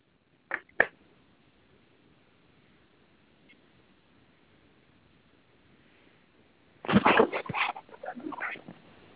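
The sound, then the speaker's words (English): A companion dog named Lucy whimpers, with two short high cries near the start, then a quiet pause before a longer run of whining, yelping sounds. No one speaks. “For instance, you saw my dog Lucy in the back.”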